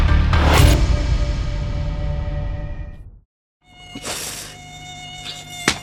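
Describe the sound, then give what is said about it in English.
Persistent mosquito buzzing with a thin, steady whine, broken by a brief moment of silence before the high-pitched droning resumes and swells again. No one speaks. “I don't know what to do about these mosquitoes anymore.”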